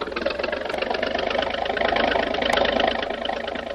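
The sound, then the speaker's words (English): A motorboat engine, given full throttle to try to lift the bow and run the boat onto a beach on the mainland, roars steadily with a dense, rattling drone, swelling somewhat louder midway as the throttle opens, then holding at a strained, even pitch. No voices are heard. “by giving her the gun, the speed may lift the bow out of the water long enough for me to run us onto the beach”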